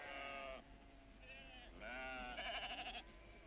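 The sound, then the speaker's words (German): Sheep bleating, several wavering, nasal calls in quick succession over about three seconds, the last one pulsing and tremulous, with no one talking. “Schaf schon drin?”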